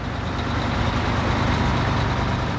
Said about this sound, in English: Moving alive in fleets of trucks, like this mini armada idling at the loading docks of an air freight company near Boston's Logan Airport. It's 4:45 on a blustery Friday morning,